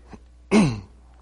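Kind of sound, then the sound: human body sound, coughing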